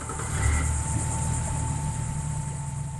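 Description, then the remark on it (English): A pontoon boat motor idles steadily, a low rumbling hum with harmonic drone that holds constant, with no one speaking. “We step onto a pontoon boat”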